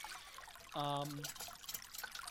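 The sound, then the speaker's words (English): A thin, steady trickle of water running from a small tap or spigot, with a brief droning, squeaky tone rising over it near the start before the flow continues alone. “You find one of those little taps, one of those little spigots. You get some water flowing.”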